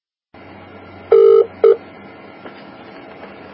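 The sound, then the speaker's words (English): Two short, loud electronic telephone keypad tones beep in quick succession as a phone call is placed to MI5, over a low, steady background hum, followed by faint clicks. “the only person, only one instance that I know of where anybody attempted to do anything about it was a man who put a phone call into MI5.”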